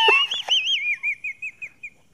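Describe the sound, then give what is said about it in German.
A voice imitates wheezing breath through a narrowed windpipe, as if unable to get air: a thin, high, warbling whistle that starts strained and breaks into a series of short wavering squeaks, each fainter than the last, almost birdlike. “Ich sag doch, ich kriege hier keine Luft”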